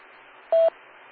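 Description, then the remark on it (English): A single short, steady electronic courtesy beep tone from a radio repeater, about 0.2 seconds long, sounds over a low hiss of radio static, clear and fairly loud against the quiet background. “Let me get the beep.”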